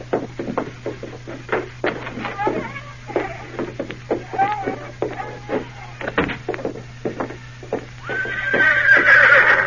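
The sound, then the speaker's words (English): A horse named Victor whinnies repeatedly as a rider mounts and urges it on, while hooves clip-clop in a quick, uneven patter, ending with a louder, sustained neigh. A faint steady low hum sits underneath. “Go on, get out to your horse.”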